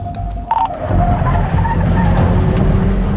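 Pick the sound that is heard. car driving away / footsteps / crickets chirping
car driving away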